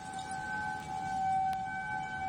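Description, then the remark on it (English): A steady outdoor tornado warning siren holds a sustained wailing tone over a faint background hiss, with no voices. “Outdoor warning sirens, often referred to as tornado sirens, are a familiar sound throughout Minnesota.”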